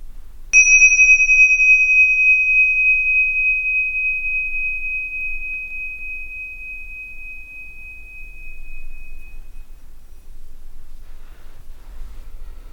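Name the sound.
meditation bell ringing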